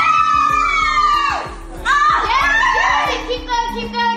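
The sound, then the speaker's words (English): Friends cheer with excited, high-pitched shouts and squeals that rise and swoop, almost continuous and loud, as a woman holding a full handstand uses her feet to take off her sweatpants, over a steady low rhythmic pulse in the background. “Then while she's remaining in the handstand, uses her feet to take off her sweatpants as some friends cheer her on.”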